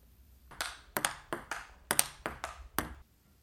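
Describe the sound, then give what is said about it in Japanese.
A ping-pong ball clicks and bounces in a quick, uneven series of about eight sharp, bright, clear taps, with no talking. “ピンポン。”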